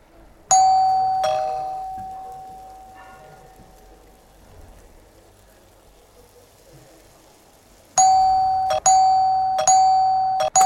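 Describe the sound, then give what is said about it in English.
A doorbell chimes twice near the start, its ring sustaining and fading, then after a quiet pause rings in quick repeated bursts, pressed impatiently several times over a soft background hiss. “You didn't hear me ringing the bell?”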